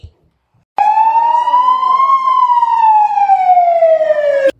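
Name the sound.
fire alarm siren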